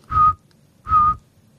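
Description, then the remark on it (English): Two steady, whistle-like toots from a pocket-sized saw-whet owl, evenly spaced about a second apart, each a clear mid-pitched note with a faint low rumble underneath and no talking. “And then we get like this tooting sound of the pocket-sized Saw-Whet owl, which doesn't sound like an owl at all.”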